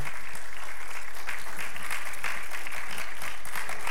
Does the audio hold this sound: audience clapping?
yes